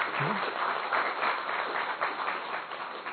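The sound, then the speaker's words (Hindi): A crowd applauds steadily after the speaker asks them to clap louder, many hands clapping in a dense, continuous wash that stays fairly loud throughout, with a brief voice faintly audible near the start. “ताली बजाने, थोड़ा जोर से बजाइए।”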